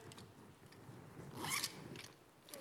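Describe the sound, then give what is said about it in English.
A pencil case zipper is pulled open in one quick rasping stroke, moderately loud, with faint rustling before and after and no voices. “Pencil case, yep. So we need our pencil case.”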